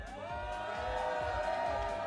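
A live crowd cheers loudly and steadily for the winner of a contest as the result is announced, with sustained whoops and shouts ringing over a dense wash of audience noise for the whole stretch.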